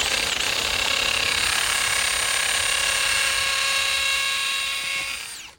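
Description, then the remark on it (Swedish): A power drill re-bores a hole deeper into the ice, making a steady, high, buzzing whine that holds one pitch for about five seconds, then cuts off abruptly. No one speaks. “Och nu väldigt gärna vill vi komma för det har välta ut av isen, så därför borrar man om i god tid för och får det längre djupare ned i isen.”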